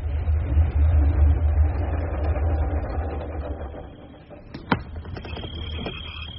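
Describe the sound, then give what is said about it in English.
A car engine idles with a steady low rumble and an even, throbbing hum. A single sharp click cuts through near the end, and no one speaks. “Oh, the car's too wide.”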